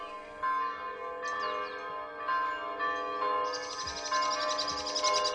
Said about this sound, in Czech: onda odeš u onu portu manastira i dišeš onaj predivni prokletijski vazduh, gledaš u prokletije, slušaš ono crkveno zvona i bude ti nekako 100 puta lakše.